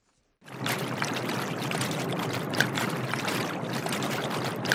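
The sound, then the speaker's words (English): Heavy rain pours down at St. Bede's School in the English-speaking town of Ashing in a steady, dense hiss that sets in abruptly after a brief silence, with scattered louder drips and splashes breaking through the constant roar. No one speaks. “Heavy rains fall as we arrive at St. Bede's School in the English-speaking town of Ashing.”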